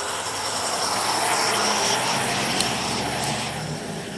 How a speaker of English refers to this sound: And hang on, the bus is going by.